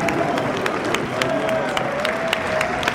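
Steady, dense applause from a large crowd in a nearly full amphitheater at a political meeting, greeting the arrival of Claude Goasguen, deputy for the 16th, many hands clapping at once with scattered sharper claps standing out, a faint murmur of voices beneath.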